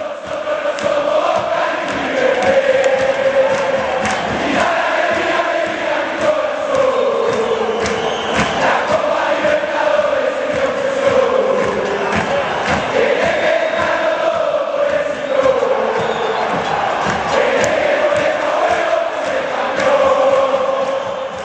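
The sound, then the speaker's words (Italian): A dense stadium crowd of San Lorenzo football supporters chants in unison, loud and continuous, with rising cheers and roars swelling over the rhythmic singing throughout. “Come no, questa è la gloriosa tifoseria di San Lorenzo.”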